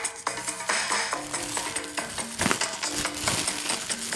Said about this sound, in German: So, dann, guck mal, hier ist ein Strohhalm. Saug doch mal die Luft aus der Tüte raus. Aber wie mache ich das? Ich mache das zu und jetzt.